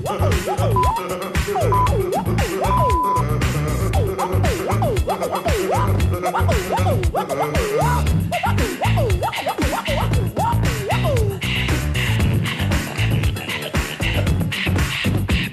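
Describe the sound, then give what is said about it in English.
Loud, continuous vocal percussion performed by a man, with steady rhythmic kicks and snares, layered with sliding pitched vocal sounds that imitate record scratching, carrying on without pause for the whole stretch. “Just listen to the beatbox he will play.”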